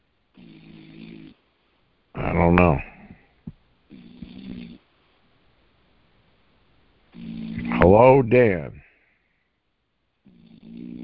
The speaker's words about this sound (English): Oh, … is snoring.